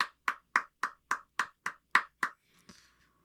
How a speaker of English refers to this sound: Wow. Round of applause.